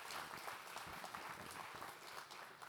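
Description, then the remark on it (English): An audience applauds steadily to welcome guests, a dense wash of many hands clapping at a fairly even loudness throughout, with no voices standing out. “If you're a guest, I think you ought to give our guests another round of applause, welcoming them.”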